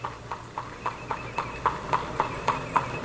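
horse hooves clip-clopping

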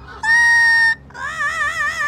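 pet bird vocalizing

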